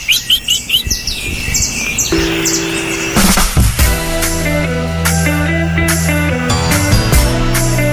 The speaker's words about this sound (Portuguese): Passarinho. É o hino.